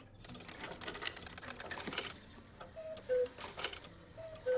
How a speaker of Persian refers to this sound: این ساعت به خصوص در سال 1862 توی فریبورگ کنده کاری شده و توسط پدر آیه پدر جا انداختم. پدر بزرگم. و بی نظیرترین ویژگیش اینه که خب اولا یه فاخته یه کوکیه که فقط با یه کوک هر 8 روز یه بار ازش بیرون میاد و فاختهشو با دست تراشیدن. بالا بدنش هم متحرکن.